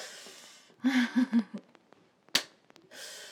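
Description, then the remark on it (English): A single sharp, loud slap of a hand against a person's buttocks, preceded by a few short breathy vocal sounds and followed by quiet rustling. “Oh, I love when you slap my ass.”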